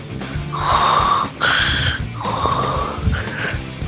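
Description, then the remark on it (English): Loud heavy breathing, a rasping inhale-exhale cycle repeating about four times in a steady, labored rhythm with no talking. “Breathing so heavy.”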